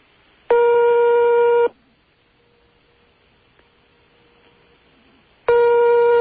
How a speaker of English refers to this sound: One is short, one is long sometimes. Very weird. Possible the radio station isn't open 24 hours. So, give it a couple more rings here. I like that one. That was a nice quick one.